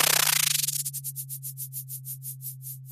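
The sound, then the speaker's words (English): Sonified echo sounder data from a buoy in the North Pacific Ocean, of zooplankton swimming downward: a steady low drone beneath hissing noise bursts that start as a rapid blur and gradually slow into evenly spaced, pulsing whooshes. “This is what zooplankton swimming downwards sounds like.”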